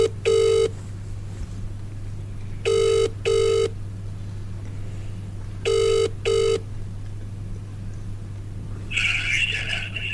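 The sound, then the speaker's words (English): Ringback tone on an outgoing phone call placed on the first day of April: three paired buzzy rings, evenly spaced about three seconds apart, over a steady low hum, with a brief noisy burst near the end. “And then I tried the Charlie number.”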